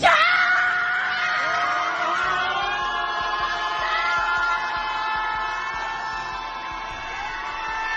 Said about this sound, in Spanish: Son los gritos desesperados al unísono de centenares de familiares de los cerca de 130 israelíes secuestrados por Hamás el pasado 7 de octubre. Y esos gritos son contra el presidente israelí,